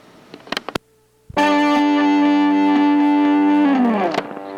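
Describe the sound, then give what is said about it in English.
A few quick clicks, then a loud, buzzy sustained tone that holds steady for a few seconds before sliding down in pitch, a short effects-heavy musical bridge with added echo. “Insert bridge with extra echo.”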